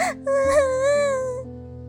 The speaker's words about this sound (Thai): คุณแม่ได้ยินเสียงร้องไห้จึงรีบวิ่งออกมาดู